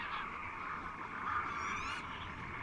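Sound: flock of geese honking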